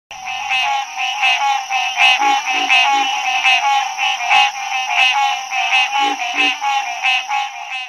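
A loud, dense chorus of green tree frogs, calls repeating rapidly and overlapping in a steady rhythm for the whole stretch, with no voices.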